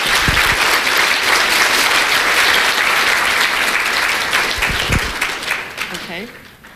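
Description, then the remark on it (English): A large church audience applauds a bishop steadily and loudly for several seconds, thanking him for consecrating the diocese to the Blessed Mother, the clapping thinning out toward the end as a voice begins speaking. “I think we should give him applause.”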